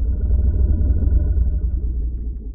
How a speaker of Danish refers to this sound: Den dybe brummelyd, elefanter laver, kaldes infralyd. Og den er så dyb, at vores menneskeører har meget svært ved at høre den. Til gengæld er lyden så kraftig, at den får jorden til at vibrere.